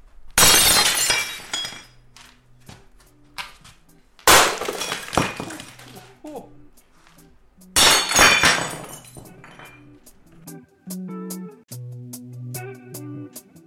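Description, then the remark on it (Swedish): Three loud smashes as a kettle, two plates and two glasses are deliberately broken, a few seconds apart, each followed by scattering shards and fading tinkles of broken glass and crockery. “Nu har jag precis slagit sönder en vattenkokare, två tallrikar, två glas”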